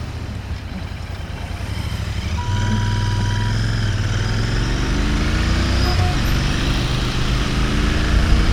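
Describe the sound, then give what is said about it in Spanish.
The single-cylinder engine of a Royal Enfield Classic 500 motorcycle runs loud, rumbling low, then revs up early on and holds a steady throttle as it rides along. No one speaks. “Estamos en una Classic 500 monocilíndrica. Esta moto es la pura esencia de Royal Enfield y sus 119 años.”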